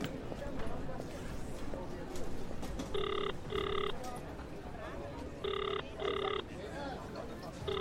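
A telephone ringing tone on the line, a call placed by someone left alone at an airport, repeats in short double bursts, two pairs and the start of a third, heard over a steady murmur of background noise.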